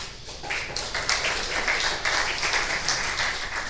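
Audience applause welcoming a speaker before a talk, a dense, steady wash of many hands clapping that holds at an even loudness for a few seconds, with no voices over it.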